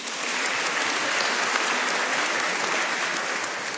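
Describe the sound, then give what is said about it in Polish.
An audience applauds steadily, a dense, even wash of many hands clapping at a constant, fairly loud level with no voices standing out, applauding pilgrims from the named parishes and towns. “Także brawa dla nich gorące.”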